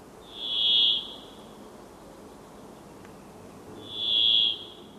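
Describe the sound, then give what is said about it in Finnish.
A brambling gives two drawn-out, nasal wheezing calls on a cloudy, damp morning in mid-April, each under a second long and fairly high-pitched, separated by a pause of about three seconds over a faint background hiss. “Ryystäminen muistuttaa hitusen viherpeippoa, mutta on selvästi krouvimpi ja toisekseen viherpeipot ovat jo vaienneet haudonnan alettua.”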